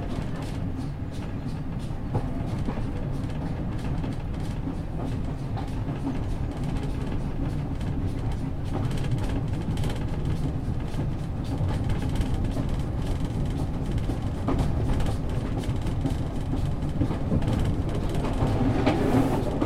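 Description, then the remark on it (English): A coal-fired steam train rolls along steadily, its deep continuous rumble mixed with a faint rhythmic clatter of wheels on rails, heard for the whole stretch with no one talking. “Smell the coal and the steam.”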